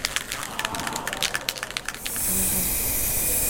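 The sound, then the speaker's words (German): A slightly clogged spray paint can sputters in short, uneven bursts, then opens into a steady, loud hiss that continues without a break to the end. “Die Dose war ein bisschen verklebt, deswegen ist jetzt ein bisschen was daneben gegangen.”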